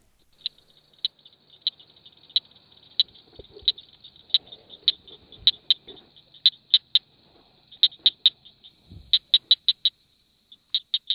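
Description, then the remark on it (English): A southern cricket frog calls with a long run of sharp, high clicks, steady at first, then bunching into quicker clusters, clear against a quiet background with faint low rumbles. “Here's the accent of the southern cricket frog.”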